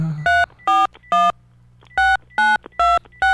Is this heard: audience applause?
no